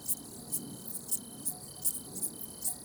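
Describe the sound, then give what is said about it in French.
An Italian cricket in a bush on a summer evening starts chirping as night falls and the light dims, in a steady, regular rhythm, about eight soft, high, trilling pulses against a quiet background, with no voices. “Voilà, le grillon italien se met en route parce que la nuit tombe, que la lumière baisse.”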